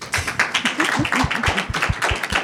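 A crowd applauds steadily, with dense overlapping claps forming a bright, crackling wash and a few heavier thumping beats mixed in, sustained at an even loudness throughout.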